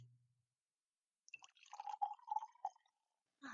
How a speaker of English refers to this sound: All right, let's start simple. Will you, pour me another glass of wine?